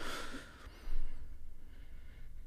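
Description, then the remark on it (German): A deep, airy breath drawn in and let out through the nose during a breathing exercise, the right nostril closed with the right index finger and breath let out through the left nostril, fairly soft, with a hissing rush at the start that fades into quieter exhaling. No one speaks. “Wir atmen ganz tief ein und dann aus.”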